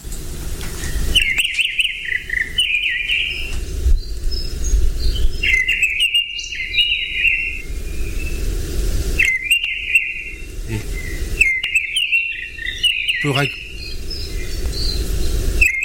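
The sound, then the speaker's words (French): A redwing thrush sings repeated short, bright whistled phrases with twittering notes, clear, over a steady low background hum of outdoor ambience and faint insect-like buzzing. “C'est une grive. Mais quelle grive ?”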